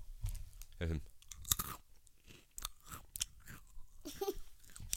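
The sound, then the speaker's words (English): Loud crunching of a crisp snack being chewed, with sharp irregular bites and crackles repeating over several seconds, and a brief voice sound in between. “Oh, I hear you crunching.”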